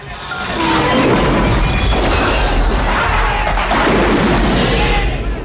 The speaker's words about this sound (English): The barracks explode into great balls of fire, taking most of the soldiers with them.